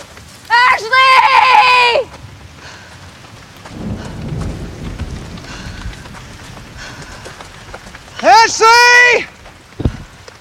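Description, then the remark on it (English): Steady, hissing heavy rain pours down in woods throughout, with a low rumble midway. Two loud, strained vocal cries ring out near the start and again near the end. “she leads him through the woods while rain pours down.”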